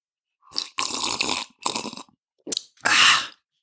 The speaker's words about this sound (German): Genau, ich schlürfe dabei von meinem Kaffee.